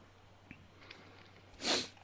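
A single sharp sneeze bursts out near the end after a couple of seconds of near silence, fairly loud with a hissy, breathy edge.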